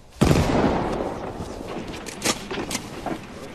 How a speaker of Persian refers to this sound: صدای مسلسل توه؟ بله قربان، همونه.